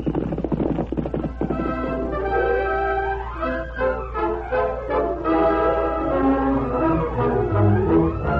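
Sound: horse hooves galloping away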